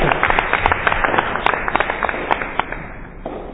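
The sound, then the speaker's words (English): An audience applauds steadily as representatives of Cayugas Watchers, a campus safety group, come forward for recognition; many hands clapping in a dense, continuous patter of crisp claps that holds at an even level for several seconds before easing off slightly at the end. “We'll clap as you come up.”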